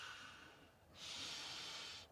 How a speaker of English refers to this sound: And I went, okay, shit. Back to my breathing practice.